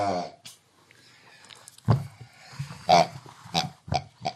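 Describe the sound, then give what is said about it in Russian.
Pigs oink and grunt in a handful of short, snorty bursts spaced irregularly over a few seconds, fairly loud, with no talking. “Чувствую, без специально обученных свинок не пойдет.”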